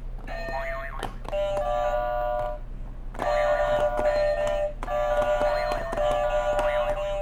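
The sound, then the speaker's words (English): Electronic buzzers sound in about four sustained bursts, bright harmonic tones layered together with warbling, bending pitches over a steady low hum, fairly loud, with no talking. “Hit it some buzzers.”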